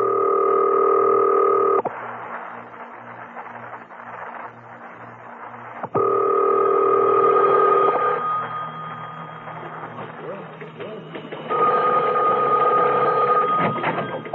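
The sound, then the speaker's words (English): A telephone being dialed: loud, steady buzzing ring tones come in three long bursts, separated by stretches of quieter, rapid rhythmic clicking and pulsing, with no voices. “Now, I must have quiet while I make this call.”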